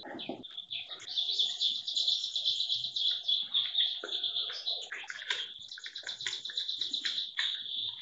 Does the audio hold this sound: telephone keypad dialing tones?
no